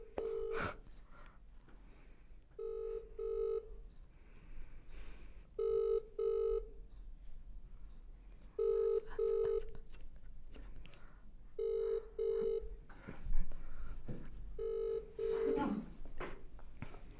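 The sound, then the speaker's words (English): An outgoing call's ringback tone, placed to reach a contest's first-place winner, purrs in double rings, six evenly spaced pairs of steady mid-pitched buzzes about three seconds apart, with faint background murmur between them. “And in first place, we will call her quickly now,”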